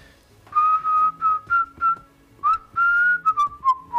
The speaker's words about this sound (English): That's what you have to do. You just whistle. All you gotta do is whistle. Give a little whistle.